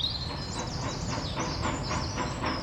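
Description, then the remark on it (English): A train rumbles steadily along the rails with a rhythmic clatter of wheels, while a high squeal or whistle-like tone rings above the noise throughout. “Let's go on the train.”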